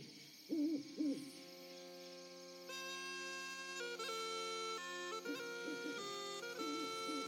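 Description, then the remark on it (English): A few soft owl hoots sound far off at the start and again near the end, over a steady, dense chorus of high-pitched insect chirring in a dark forest at night. “You hurry out into the blackness of the forest night, amid the chirruping of the insects and the far-off hoots of the owls.”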